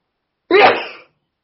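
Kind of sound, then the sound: human body sound, sneeze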